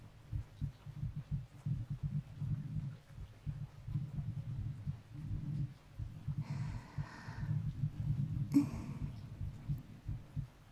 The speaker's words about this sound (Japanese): こうしてお互いの心臓の音を聞いてると、だんだん気持ちが安らいでいくね。あ、少し鼓動がゆっくりになってきてる。